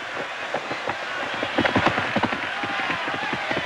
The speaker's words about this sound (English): The horses trot out of the water, and the jockeys stagger after them. They each swing themselves onto a muddy horse and ride off.